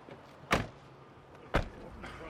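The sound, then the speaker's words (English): Two solid thumps about a second apart, like car doors shutting, stand out over a low, steady background rumble, with faint activity continuing afterward as a newly married couple settle into their car in Washington for a 20-minute drive home to Oregon. “After the ceremony, the two make their way out to their car for the 20-minute drive home to Oregon.”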